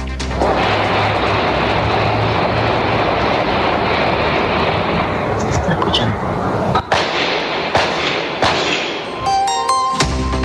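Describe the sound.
Several sharp gunshots crack out at irregular intervals over a loud, steady roar of background noise, coming more often in the second half, with muffled voices mixed in.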